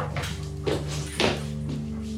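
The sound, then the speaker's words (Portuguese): A dog shifts around on a bed in a bedroom, making a few soft rustling thumps spaced about half a second apart over a steady low background hum. “Vem cá, Café, pode descer da cama.”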